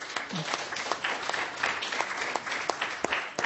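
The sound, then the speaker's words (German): An audience claps steadily, a dense patter of many hands with sharper individual claps standing out, holding at a moderate level without voices on top. “Ja, munteres Publikum, wunderbar.”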